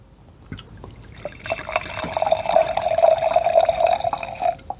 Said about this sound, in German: Ich würde sagen, du kannst den Blaufränkisch schon in das zweite Glas schütten. Und wir lassen denjenigen, die mittrinken, die Zeit, das auch zu tun.